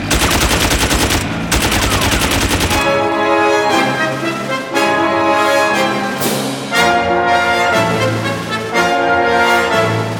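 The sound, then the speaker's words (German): A loud burst of rapid machine gun fire rattles for a few seconds, then stops abruptly as sustained orchestral music swells and carries on alone. “Es wird geschossen! Sind die verrückt? Mit MGs?”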